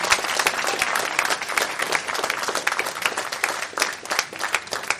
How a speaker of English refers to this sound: So let's give everybody a round of applause. Those who completed Revelation chapter number 1.